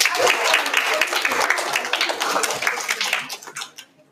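A crowd applauds with dense, steady clapping for about four seconds, the many overlapping claps forming a bright rattling wash that fades out at the end.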